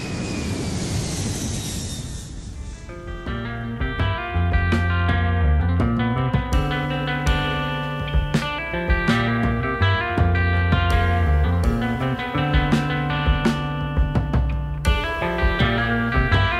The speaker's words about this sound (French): Allez, décollage maintenant, voilà, imminent pour Ouarzazate, n'oubliez pas vos lunettes de soleil, c'est parti!